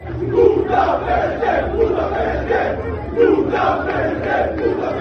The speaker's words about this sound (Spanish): en el otro lado, está el Paris Saint-Germain de Luis Enrique, que está alojado en el Hotel Vela, en Barcelona. Ahora estaremos ahí en directo con Víctor Navarro, pero esta tarde se escuchaban estos cánticos en la llegada del equipo al hotel.